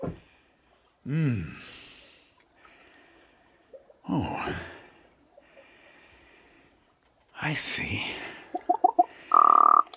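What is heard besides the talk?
raven croaking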